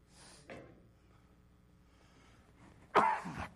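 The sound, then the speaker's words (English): A person coughs twice: a small muffled cough, then after a short pause a loud, harsh, raspy cough. No one speaks. “Excuse me, I'm looking for a napkin or something to cough in.”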